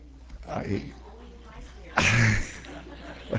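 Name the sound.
sneeze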